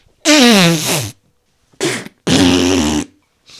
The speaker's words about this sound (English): is sabotaging her own relaxation tape by farting in the middle of the session.